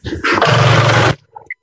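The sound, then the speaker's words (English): A loud, harsh buzzing drone from an electric water flosser runs steadily for about a second, then cuts off abruptly as the floss button is pressed to shut it off, followed by a couple of faint clicks. “You know, press the floss button to shut that off. You can hear what that sounded like.”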